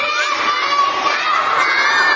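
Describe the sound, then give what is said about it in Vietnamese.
A large group of children shouting loudly together, a dense, sustained burst of young voices that stays strong for the whole couple of seconds. “Bây giờ thấy người ta hét to vậy chưa?”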